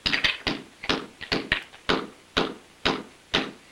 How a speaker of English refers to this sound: Kneeling, he holds a chisel against the brick wall and bangs into it with a sledgehammer. He whacks the crumbling bricks with the sledgehammer.